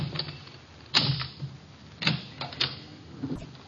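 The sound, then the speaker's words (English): A skeleton key works in the locked door of a store, making a few sharp metallic clicks and rattles, spaced unevenly over a few seconds, with quiet background noise between. “He's reformed, so he gave me all his skeleton keys.”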